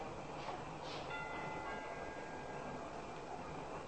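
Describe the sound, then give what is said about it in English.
A doorbell chime, rung by police officers at a house above the Sunset Strip, sounds once, fairly soft, its ringing tone lingering for a few seconds over a quiet background hiss with no one talking. “We rang the bell and waited.”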